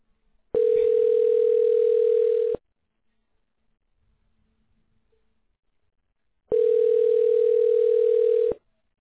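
Two long, steady, mid-pitched ringback tones on a phone call to Amazing Garage Door Service, each lasting about two seconds, separated by a silent gap of roughly four seconds, with no voices.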